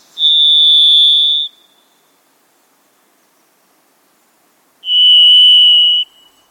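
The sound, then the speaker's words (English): Varied thrush song: two long, eerie, buzzy whistled notes, each held over a second, the second slightly lower in pitch than the first, separated by a few seconds of silence. “If you hear the eerie song of the varied thrush, you may be in a moist Pacific Northwest forest in a quiet and private place.”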